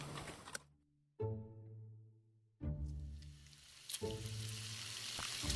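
Pork sizzles and crackles in a hot pan, a steady hiss that swells in bursts over a low humming drone, with no one speaking.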